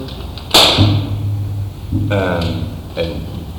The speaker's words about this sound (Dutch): Ja, maar we moeten eerst even klap maken. Ik ga wachten naar de klap.